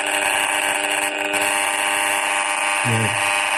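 An RF meter buzzes harshly and continuously as a cordless phone is switched on and held very close to the meter's aerial, a loud, steady electronic drone rich in overtones, with a brief wavering shift in pitch near the end. No one speaks.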